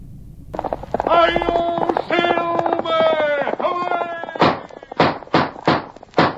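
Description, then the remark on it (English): A loud, drawn-out call rings out, then close horse hooves gallop in a quick, steady run of heavy thuds. “A fiery horse with the speed of light, a cloud of dust, and a hearty hi-yo silver, the Lone Ranger.”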